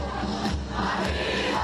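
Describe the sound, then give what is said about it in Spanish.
Steady, dense crowd noise from a street parade on the main street of Jaca, Spain, in the rain, a broad wash of many voices murmuring and calling out at once, fairly loud and continuous with no single voice standing out. “Saleo se oye, ¿eh?”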